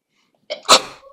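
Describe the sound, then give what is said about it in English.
A single sharp sneeze bursts out after a brief quiet inhale, loud, with a quick breathy tail fading away. “Gesundheit.”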